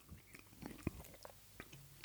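Quiet chewing of food with soft crunches and wet clicks at an irregular pace, plus one sharper bite near the middle. No one speaks.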